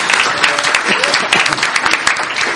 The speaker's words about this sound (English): Yeah, give him an applause.